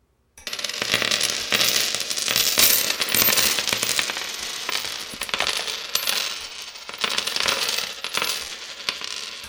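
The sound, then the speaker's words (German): Coins clink and jingle continuously as someone counts their money, as if pouring and sorting them by hand, a busy metallic rattle lasting several seconds with no voices. “Ich will mir überschlagen, wie viel Geld ich habe.”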